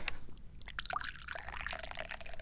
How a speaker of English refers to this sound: I pour tea.